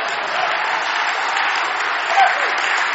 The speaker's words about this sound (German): In Lüdenscheid würden sie jetzt alle aufstehen und vor Begeisterung klatschen, weil Gott so gut ist.